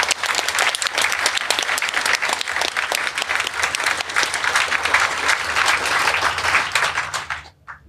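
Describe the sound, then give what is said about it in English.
A large audience bursts into steady, dense applause for the event's sponsors, many hands clapping at once for about seven seconds before it quickly tapers off to quiet. No one speaks over it. “Can I have a round of applause for the sponsors?”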